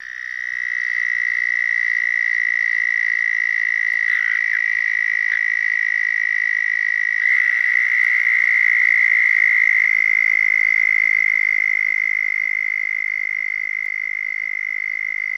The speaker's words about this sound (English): The southern toad's call is a trill of about 5 to 10 seconds in duration.